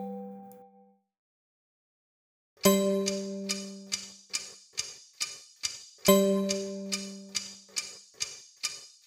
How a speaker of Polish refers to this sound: Średni zegar tyka tak, tiki tak, tiki tak, tiki tak.